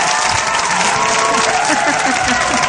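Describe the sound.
A steady round of applause, dense clapping from many hands holding at an even loudness for a few seconds, with a faint hum of voices underneath.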